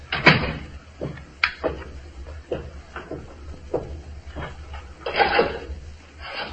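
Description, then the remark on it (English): A safe's door dial clicking through a series of sharp mechanical clicks at an uneven pace, a couple louder than the rest, with no voices, as someone counts the clicks. “I'm counting the clicks on the door.”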